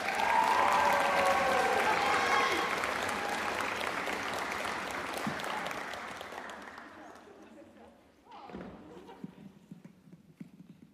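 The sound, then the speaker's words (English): A crowd claps loudly in a dense, sustained burst that gradually fades over several seconds, followed by a brief voice and a few scattered remaining claps. “Double applause.”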